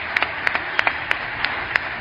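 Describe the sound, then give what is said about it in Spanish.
Sparse, evenly spaced handclaps, about eight sharp claps in two seconds, a thin, scattered round of applause for the people of the town of Guijuelo, over a steady background hiss, with no talking. “Un fuerte aplauso para todo el pueblo de Guijuelo.”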